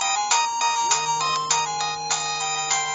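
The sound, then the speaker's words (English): A polyphonic mobile phone ringtone plays a bright, synthetic melody of quick layered notes with steady rhythmic pulses, loud, with no one talking. “This was the first generation where we started to get the camera phone and the polyphonic ringtones.”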